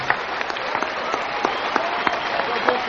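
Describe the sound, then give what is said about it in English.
A crowd at a church gathering claps steadily as blessed men go back to their seats, a dense patter of many hands with sharper individual claps popping out, sustained at moderate loudness with no pause throughout. “A big hand while they go back to their seats.”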